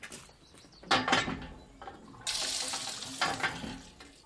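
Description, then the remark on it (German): Water from a hand pump splashes out in a couple of short bursts as people wash under it, then gushes in a steady stream for the last couple of seconds. “Wascht euch unter der Pumpe rasch.”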